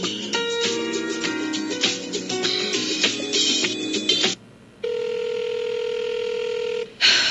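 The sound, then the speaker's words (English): A phone call being placed to Jasmine, who does not answer: a rapid jumble of dialing tones, a short pause, then one long, steady ringback tone that stops without anyone picking up. No one speaks. “I really wish Jasmine would answer her phone.”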